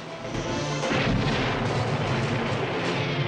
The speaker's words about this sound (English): As more soldiers are blasted by an explosion, Chris is on the move.